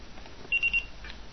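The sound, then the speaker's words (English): Three short, high electronic beeps in quick, even succession from a player device confirming a bookmark, fairly loud against a quiet background hiss, with no talking. “It beeped three times.”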